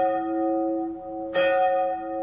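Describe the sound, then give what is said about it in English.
A large bell in the towering three-story steeple of a Methodist church built in 1870 tolls, one resonant strike ringing out, then a second clang about a second later, its deep humming overtones lingering loudly with no voices present. “it's likely the Hoover household heard its ringing bell on Sunday mornings”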